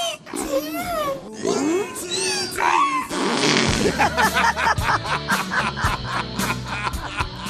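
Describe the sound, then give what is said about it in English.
A donkey named Harriet brays in loud, rising and falling harmonic honks for a few seconds, then rhythmic music with a steady pulsing beat takes over. “Harriet is an operatic donkey.”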